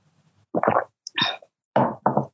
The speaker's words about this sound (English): And I need to take a sip of water.